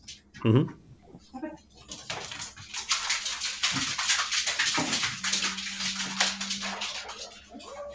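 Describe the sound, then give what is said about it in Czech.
A dog gives a short whine, then a busy patter of claws clicks and scrabbles across a hard floor for several seconds as Siberian husky dogs run outside, with faint voices and a low hum underneath. “My jsme teď slyšeli spoustu drápků na podlaze, jak odbíhají psi ven.”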